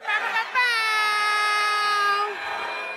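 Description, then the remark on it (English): An audience, on a count of three, imitates an air horn with their mouths, with a short opening burst followed by one loud, sustained, buzzy blare held for about two seconds before trailing off into scattered voices. “So everybody on three, give me your best mouth air horn.”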